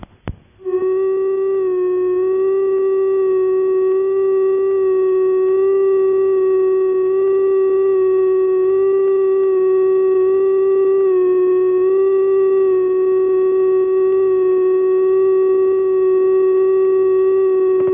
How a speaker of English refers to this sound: The tone that follows is not a special tone, but in fact just an ordinary sad ringing machine running unevenly.